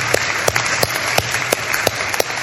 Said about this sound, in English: Thank you to those of you. That's worth some applause.